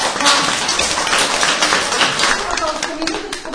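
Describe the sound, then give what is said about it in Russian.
Steady applause from a concert audience, a dense wash of many overlapping claps that stays fairly loud and even throughout, with no single voice standing out. “И поэтому аплодисменты от любимой вас.”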